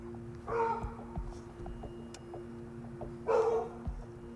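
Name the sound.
dogs barking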